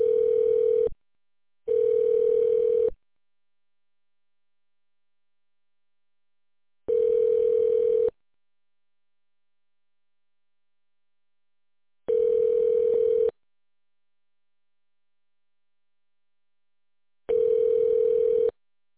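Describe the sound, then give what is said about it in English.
A steady telephone tone pulses on and off, with a quick double beep at the start followed by single one-second tones spaced several seconds apart, as a phone call is on hold while being transferred. “Please hold while your call is transferred.”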